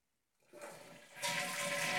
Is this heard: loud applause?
no